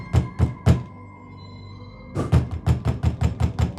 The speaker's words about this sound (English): He bangs on the door.